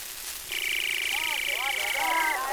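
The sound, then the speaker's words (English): A voice imitates a trucus bird whistle: one long, steady, high-pitched whistle held for about two seconds, with rising and falling warbled chirps looping beneath it. “A trucus whistles through the day like this.”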